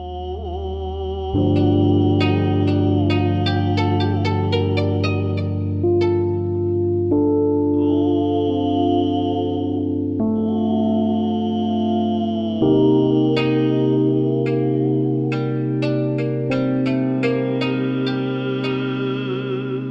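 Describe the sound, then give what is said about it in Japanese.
A jazz-fusion instrumental, composed as an accompaniment for an unaccompanied vocal piece, plays steadily at full volume, with sustained low bass chords shifting every few seconds beneath bright, sparkling plucked notes and echoing electronic tones, with no voices. “もう人間の声だけで十分なパワーがあるということだと思うんですけれども、あえて伴奏をつけてみるというのもまた新鮮で興味深いんではないかと思いまして、作りました曲が今後ろで流れています”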